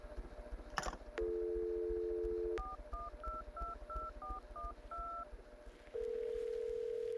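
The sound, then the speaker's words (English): A steady dial tone hums, then about eight quick touch-tone keypad beeps are punched in an even rhythm on a telephone, followed by another sustained tone. Clear, with no one speaking. “Pick up the phone and call the Fantasy Girls.”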